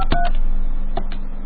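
Telephone keypad touch-tones beep as an 800 number for the Coca-Cola Company is dialed: two quick presses, a short pause, then two more, clear over a low steady hum.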